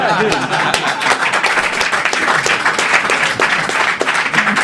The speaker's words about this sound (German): Seit wann ist das Grund für Applaus?